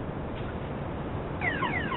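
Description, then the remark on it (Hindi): A car's safety alarm starts wailing partway through, its repeating sweeping electronic tones rising over a steady background hiss, moderately loud. “मेरी गाड़ी का सेफ्टी अलार्म बज रहा है।”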